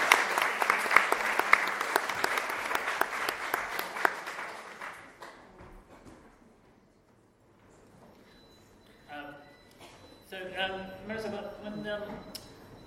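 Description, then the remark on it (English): An audience breaks into a dense round of applause, many hands clapping loudly at once, which fades out after several seconds; afterwards people begin talking. “So please, could you just give a round of applause for the leaf?”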